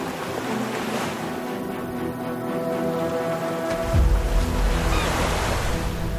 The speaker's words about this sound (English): Boats are moving up and down in the cool sea breeze.